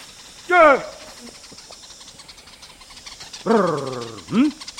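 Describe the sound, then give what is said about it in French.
A Yao honey hunter's voice gives short vocal calls outdoors to call the greater honeyguide bird: a brief falling cry, a pause, then a rolling trill that ends in a low grunt, all over a steady background hiss. “Ils appellent le grand indicateur en émettant un tri suivi d'un grognement, auquel répond l'oiseau.”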